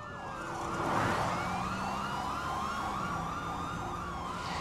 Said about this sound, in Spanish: El detective llamó por una unidad identificada para detenerlo. Cuando el hombre escuchó la sirena, huyó.